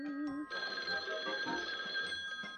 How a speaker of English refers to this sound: can you get the phone for me?